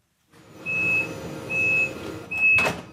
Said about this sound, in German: Dieses Geräusch lässt aufatmen. Die Türen schließen, der Zug fährt ab. Im besten Fall pünktlich und ohne Störungen.